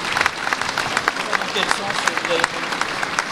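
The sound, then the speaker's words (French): An audience applauds the Vichy pastille at festivities in Vichy, a dense patter of many hands clapping at once that holds an even, moderately loud level for a few seconds. “Donc je vais vous demander, non pas de m'applaudir, mais d'applaudir la pastille de Vichy.”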